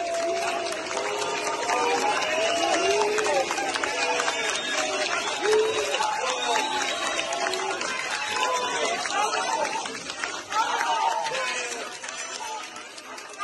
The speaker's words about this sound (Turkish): Sağlık Bakanı cenazeye katılan doktorlar tarafından şiddetle yuhalanıyordu. Bakan adına bundan daha trajik bir sahne yaşanabilir mi bilemiyorum.